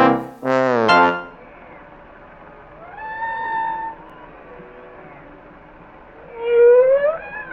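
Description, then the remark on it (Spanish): Humpback whale low-frequency calls: a short loud burst, then long eerie moaning tones that bend and glide, ending with a strong upward-sweeping cry, with no talking. “La llamada de baja frecuencia de la ballena jorobada es el sonido más fuerte producido por un ser vivo y puede ser escuchada a 1,000 kilómetros de distancia.”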